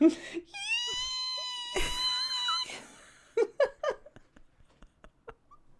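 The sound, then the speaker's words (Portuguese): A voice imitates a cockroach's scream with a long, high, quavering wail that wavers in pitch, followed by a few short breathy gasps and clicks. No words are spoken. “O grito da barata, faz agora.”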